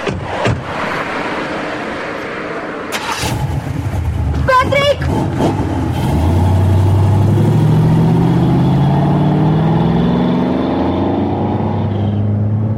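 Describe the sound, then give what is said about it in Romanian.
A red convertible car's engine runs loudly, its pitch climbing steadily as the vehicle accelerates away, after a few sharp knocks and a brief burst of voices early on. “Vreți să ajungeți acasă? Vă duc eu cu mașina.”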